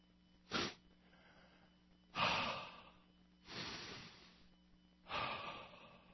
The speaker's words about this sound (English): Letting go now. Letting go now. Breathing, breathing. Letting go now. Letting everything go. I'm going to my happy place.